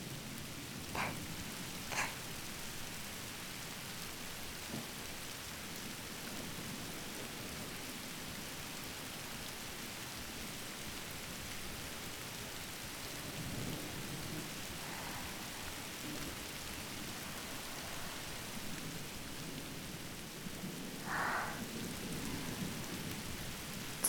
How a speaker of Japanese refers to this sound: こうしてたいな。何も考えずに雨の音だけ聞いていたいな。